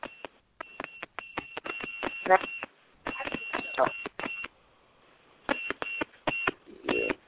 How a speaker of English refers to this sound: What is that you got beeping on your phone? Nothing.